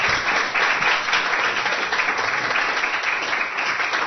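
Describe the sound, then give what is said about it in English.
A crowd breaks into steady, dense applause, many hands clapping at once in a continuous loud wash of sound that holds even for about four seconds, with no voices standing out. “Give him an applause if you guys.”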